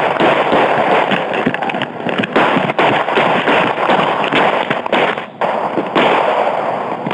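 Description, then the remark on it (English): A rapid, sustained volley of twelve sharp gunshots fired by a police officer at a running man, loud and harsh, the bangs crowding together over a constant wash of crackling noise with only brief dips between them. “One of the officers fires 12 shots.”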